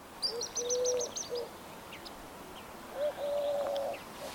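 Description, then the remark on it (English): Eurasian collared doves coo in a courtship duet: two smooth coo phrases separated by a pause, one lower-pitched and the other higher-pitched, with faint high chirps from another bird in the background. “That's a collared dove, isn't it? Yeah, it's that courtship duet.”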